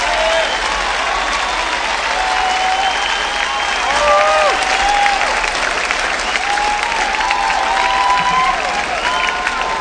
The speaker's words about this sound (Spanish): Muchísimas gracias, amigos, por esas merecidas aplausos.